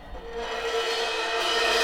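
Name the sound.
creaking door opening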